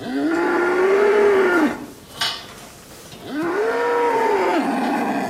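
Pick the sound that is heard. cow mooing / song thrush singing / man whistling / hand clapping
cow mooing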